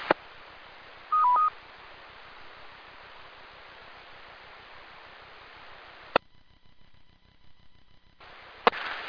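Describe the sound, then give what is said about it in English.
Steady radio hiss on the Central Carolina Skywarn amateur radio repeater (WX4 MMM) during a weather net, with a short dual-pitched repeater beep near the start, then a sharp click cuts to near-silence with faint steady tones before another click brings the hiss back. “So we'll keep the tones up for a few more minutes, but we'll step down from a directed net to a standby net.”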